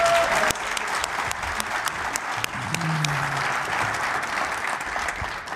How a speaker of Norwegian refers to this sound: En skikkelig applaus der, folkens.